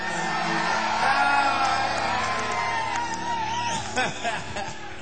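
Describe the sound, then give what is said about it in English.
A live show audience screams and whoops loudly, a sustained roar of cheering voices with scattered yells and shouts rising above it. “he's going to be recording this show, so you might hear yourself on it, so scream real loud.”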